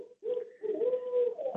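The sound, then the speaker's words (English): An owl hoots in a short series of low, breathy calls, the notes running close together and fairly loud, with no other sounds or voices around them. “I hear an owl.”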